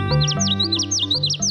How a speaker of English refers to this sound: Flitting from stem to stem, a yellow bird in a tiny black bandit mask sings with a voice many times his size. Common yellow throats are one of the most abundant warblers in North America.